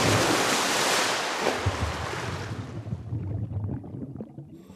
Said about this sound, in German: Nach dem letzten Sicherheitscheck folgt er dann endlich. Der Sprung ins kühle Nass.